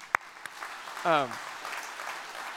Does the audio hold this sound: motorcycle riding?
no